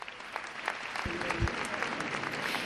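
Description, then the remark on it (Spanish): A crowd applauding steadily outdoors around the Basilica, greeting the Macarena brotherhood's decision not to go out in procession, a dense wash of many hands clapping, with a brief low rumble partway through. “Hace tan solo unos minutos hemos conocido la decisión que tomaba la Macarena y que era recibida entre aplausos aquí en los alrededores de la Basílica.”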